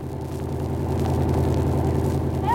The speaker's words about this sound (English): Here comes the car now.